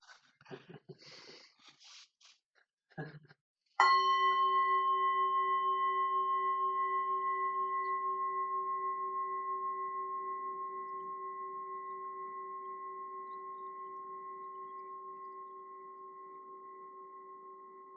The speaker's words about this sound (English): Who's near the bell? Shall I ring the bell? Yeah, in a moment, yeah.